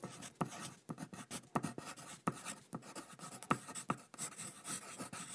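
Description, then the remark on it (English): Quiet scratching of a pencil moving across sketchbook paper in quick irregular strokes, with occasional sharper taps, and no voices. “But this time, they'll leap from his pencil onto his sketchbook.”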